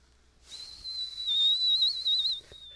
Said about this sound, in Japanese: マジか、マジか、口笛。